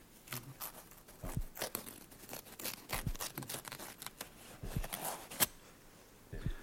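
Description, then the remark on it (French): Scissors snip repeatedly through cloth, cutting open the collar of a condemned man's shirt: a series of crisp, irregular cuts mixed with soft tearing and rustling of fabric, with no voices. “Échancrez la chemise du condamné.”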